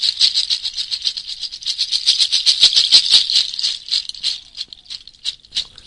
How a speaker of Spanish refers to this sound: Esta es una chacha. Un manojo de pezuñas de cabra.